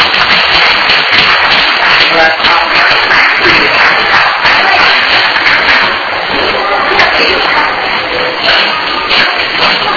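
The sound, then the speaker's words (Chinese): A group claps steadily for the full ten seconds, a dense, even patter of many hands with no pauses, fairly loud throughout, with faint voices mixed into the applause. “没有了，很好，拍手。”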